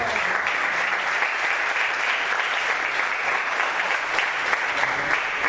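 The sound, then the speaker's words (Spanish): A crowd at a Los Cabos tennis tournament event applauds the tournament director steadily, a dense, even wash of many hands clapping that holds at the same loud level throughout without fading. “Aplausos.”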